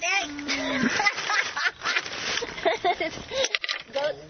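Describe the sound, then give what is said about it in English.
Several goats bleat in quick, overlapping, wavering cries as they attack, with a noisy outdoor background and no pause between the calls. “These goats are attacking.”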